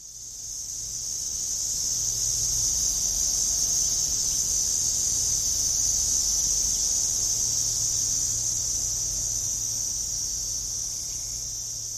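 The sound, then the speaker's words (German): A dense, continuous insect drone fills the whole stretch, cicadas buzzing steadily from all around with a high shimmering whine, no pauses and no voices, over a low rumbling background. “Wenn dieses Summen die Landschaft einnimmt, wenn es scheinbar von überall gleichzeitig kommt.”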